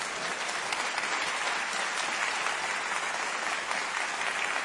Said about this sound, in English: We're going to clap because we're praying for the president.